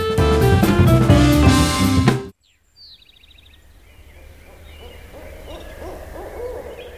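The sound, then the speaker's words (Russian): Loud music stops abruptly, then after a brief silence an owl hoots several times over quiet nighttime ambience, the calls soft, with faint chirps mixed in. “Тогда отправились они за ответом к мудрой птице.”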